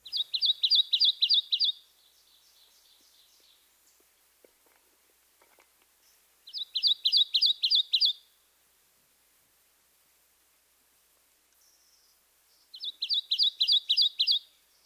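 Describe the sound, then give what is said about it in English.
A Kentucky warbler sings three bouncy songs, each a quick run of about six to eight repeated two-part whistled phrases, like chirree, chirree, separated by several seconds of near silence. Clear. “Our third two-noted vocalization is the song of the Kentucky warbler.”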